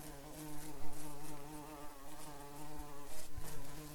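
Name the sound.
honeybee buzzing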